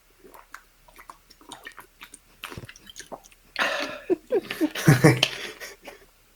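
Someone drinks water noisily: a run of soft wet mouth clicks and sips, then louder gulping swallows with breathy bursts toward the end.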